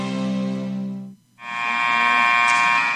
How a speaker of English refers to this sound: Here we go. There's the buzzer. Set number four coming up here.